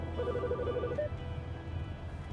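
A phone rings through a car's display system for an incoming call, a short electronic trill of pulsing tones lasting about a second before cutting off, fairly quiet over a low background hum.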